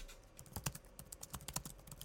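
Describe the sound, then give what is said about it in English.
Rapid, irregular clicking of keys being typed on a 2015-model laptop keyboard, fairly crisp, with a couple of slightly louder strikes standing out; no one speaks. “That just sounds like, that sounds like keys.”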